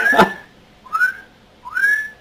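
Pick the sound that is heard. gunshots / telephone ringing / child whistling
child whistling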